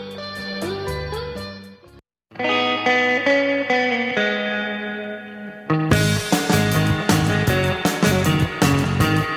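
An instrumental surf rock tune with twangy, reverb-soaked electric guitar over driving drums, loud and full, briefly dropping out before surging back in with a brighter, heavier section.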